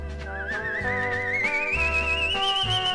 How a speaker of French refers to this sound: Il siffle à l'envers, il aspire.